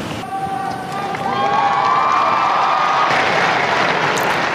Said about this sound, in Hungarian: Szent Péter téren jelenlevő számos zarándok ma is nagy tapssal és mindenféle bekiabálásokkal köszöntik a Szentatyát, talán azért is, mert sok a fiatal, ahogy hallhattuk.